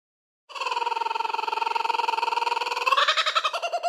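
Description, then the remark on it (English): A toy bird, when slapped, lets out a rapid, buzzy electronic warble that runs steadily for about three seconds, then jumps in pitch near the end. It is loud, with no talking. “But slap that bird and let's get into today's joke.”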